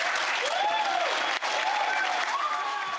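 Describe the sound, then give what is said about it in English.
Attendees at Winter Soldier clap in a dense, steady roar of applause for the full three seconds as a former Marine strips off his medals and ribbons and throws them into the audience, with a few rising and falling cheers or whistles riding over the clapping. “stripping his medals and ribbons from his chest and throwing them into the audience to the applause of attendees at Winter Soldier.”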